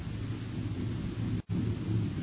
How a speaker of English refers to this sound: A herd of critters. Look, you see the dust? They're coming this way in a stampede.